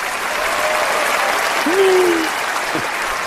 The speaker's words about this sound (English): That was exceptionally long applause. Tonight? That must have been saved from a time somebody made a real disparaging Trump remark.